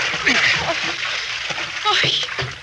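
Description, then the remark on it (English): Water splashes and sloshes as a person goes over a boat's side into the water, a busy, churning wash of noise with faint muffled voices underneath. “You must be freezing in that water.”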